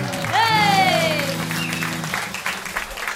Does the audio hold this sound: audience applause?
yes